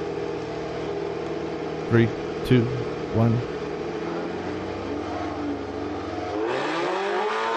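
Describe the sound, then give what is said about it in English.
A Honda race car engine idles with a steady, throbbing hum while voices count down briefly, then it revs hard and accelerates away, its pitch sweeping upward near the end, reaching 115 miles per hour. “Okay, he's revving up. There he goes.”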